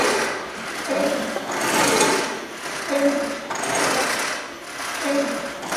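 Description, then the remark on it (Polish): A hand-operated fire pump, a museum exhibit, being worked with only air in it and no water, in a steady rhythm, each stroke a swelling mechanical rasp with a squeaky creak, repeating roughly every two seconds without any talking. “No i trzeba dłuższy czas pompować równomiernie, żeby strumień wody wypływał równomiernie.”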